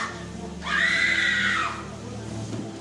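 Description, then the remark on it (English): A woman lets out a single loud, high-pitched shout lasting about a second, rising and then trailing off, as she shouts under the anointing during a prayer service, over a low background hum. “Bring a lady for me that shouts right now under the anointing.”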